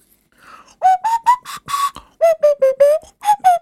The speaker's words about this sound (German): ich hab nämlich ein Instrument geschenkt bekommen, das mein neues Lieblingsinstrument werden könnte und es trägt den wunderbaren Namen Nasenflöte